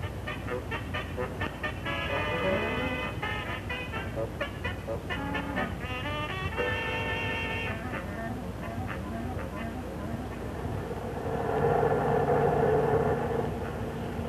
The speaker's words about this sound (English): Be near the place where we get off by now. Yeah, Pop. We've been on this bus more than an hour.